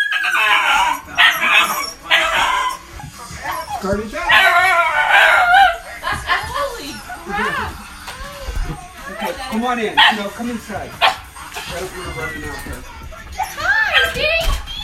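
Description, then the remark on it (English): A pet dog named Maya barks excitedly and nonstop, its loud, frantic barks mixed with high yips and whiny howling, sounding worked up and agitated throughout. “As you guys could clearly hear, my dog Maya has gone crazy.”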